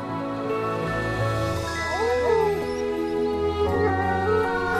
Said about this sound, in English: We know when we can be met with a wolf howl or another top species that we have help in balancing the ecosystem.